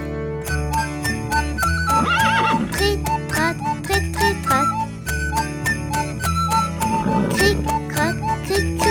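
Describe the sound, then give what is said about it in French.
Steady clip-clop of trotting hooves runs over a jingly musical backing, with a horse whinnying twice, once early and once near the end. “Le cheval qui trotte, crit, crotte, crit, crit, crotte, fait une petite crotte, crit, crotte, crit, crit, crotte.”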